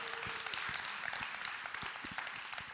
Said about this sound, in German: Applaus von der jungen Generation für unsere Älteren. Yeah.